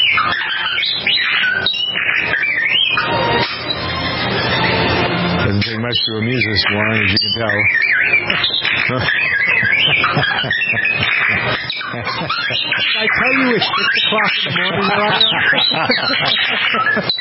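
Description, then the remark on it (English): A family's pet bird, heard in the audio of a video, mimics the beeps of Star Wars character R2-D2, a run of warbling, swooping whistles and chirps rising and falling in pitch, coming in bursts beneath people talking. “the audio from a video that features a family's pet bird who mimics his favorite Star Wars character, R2-D2.”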